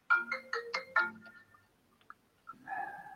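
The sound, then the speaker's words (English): A phone ringtone plays a quick run of five bright, bouncy melodic notes, then trails off into a few faint blips before a softer tonal chime begins. “A phone.”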